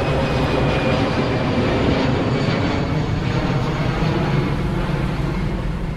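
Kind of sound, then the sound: vehicle, airplanes flying overhead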